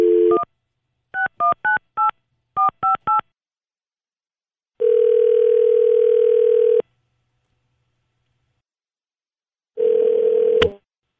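A quick run of touch-tone keypad beeps in short clusters, followed by a long steady telephone tone, a pause, then a shorter burst of the same tone ending in a sharp click. No voices.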